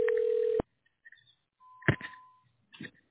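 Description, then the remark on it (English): A telephone line ringing as a call is transferred to a tax relief service: a short steady electronic tone cuts off, followed by clicks, a thin higher tone and brief line noise, with no one speaking. “All right, let me get these specials online for you.”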